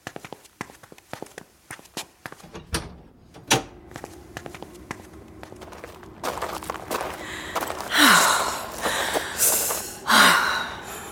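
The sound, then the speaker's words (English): Footsteps shuffle across a floor, a back door clicks and thuds open, and a rush of louder outdoor noise floods in before the door swings and bangs shut. No one speaks. “There's a perfectly good back door over there.”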